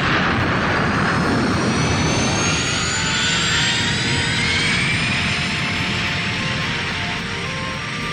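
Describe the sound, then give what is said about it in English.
A loud, sustained roar of a spaceship's wave motion engine during lift-off fills the whole stretch, a dense rumbling wash with rising whining tones sweeping upward through it, steady, with no voices. “Connect wave motion engine. Power to the wave engine. Starting flywheel.”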